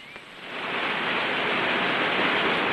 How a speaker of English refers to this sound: Now the group reaches a steep wall of rock. Before them, a waterfall plunges down the escarpment into a shallow stream.